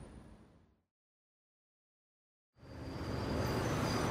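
A bus pulls up at a bus stop with a loud, steady engine rumble and hiss that swells, following a short stretch of quiet after fading street noise.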